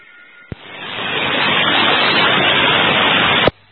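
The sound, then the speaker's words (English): An AM radio carrier heard on an amateur radio net lingers as a steady wash of hiss after the modulation ends, switching on and off abruptly with faint clicks and lasting about three seconds, with no voices. “Sure if that was your carrier continuing just beyond your modulation”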